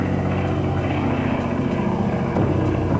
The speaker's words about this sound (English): The airplane had to dive and turn to escape the blast.